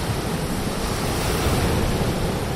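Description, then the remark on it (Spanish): Sea waves wash onto a beach in a steady, continuous roar of surf, fairly loud and even throughout with no distinct individual crashes and no voices. “Bajo nuestros pies, la arena de la playa, alguno haciendo gimnasia y de fondo el sonido del mar.”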